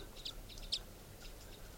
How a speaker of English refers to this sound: Recording, I've been walking down the road here near the campsite, and I happened to hear crossbills up in the treetops of the road.